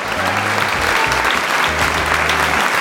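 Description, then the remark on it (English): A burst of canned applause, dense steady clapping from a crowd at constant loudness for a few seconds, with low tonal hum bands running beneath it. “That's where we put the fake applause at.”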